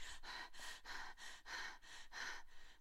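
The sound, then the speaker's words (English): A person pants rapidly and heavily, about eight quick, breathy in-and-out breaths in a steady rhythm with no talking, like someone out of breath after running and needing more air. “You're panting because you need more air, more oxygen.”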